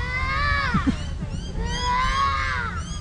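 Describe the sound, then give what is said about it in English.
A young girl's high, wavering voice imitates bird calls in a wild play garden, two long, sweeping cries that rise and bend in pitch, heard over a steady rumble of outdoor background noise. “As we move through the wild play garden, I hear a little girl making some strange sounds.”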